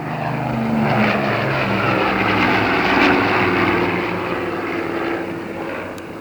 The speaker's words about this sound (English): And there she goes, the first plane to take off, the time 9:15 a.m., December 19th. Good luck and happy landings for Hollywood's Operation Korea.